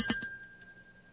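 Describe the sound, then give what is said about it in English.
A crystal bell rings with a couple of quick bright strikes, then a clear high pure tone lingers and slowly fades, with faint trailing shimmer. “This one is a crystal bell.”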